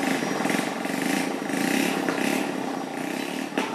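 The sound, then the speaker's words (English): A handful of boys on rusty motorbikes zoom along a village's main road, the engines buzzing and droning continuously, rising and falling in pitch as the bikes rev and pass one after another, loud and steady throughout. “There's a tea house with rickety plastic chairs, a small shop and a handful of boys zooming along the main road on rusty motorbikes.”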